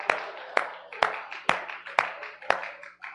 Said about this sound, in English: Let's give the Lord a hand clap while you make your way back to your seats.